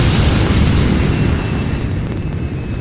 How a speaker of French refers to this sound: Et nous voilà aujourd'hui au décollage de la fusée Persévérance qui va aller tout droit vers la planète rouge, j'ai nommé Mars. 10, 9, 8, 7, 6, 5, allumage de moteur, 2, décollage.